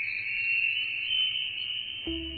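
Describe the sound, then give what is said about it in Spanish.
A dreamy bell effect: a steady, shimmering high ringing tone holds throughout, and a fuller, lower chime with several overtones sounds just before the end. No one speaks. “Sonido campana onírica, nos vamos hacia el cuento.”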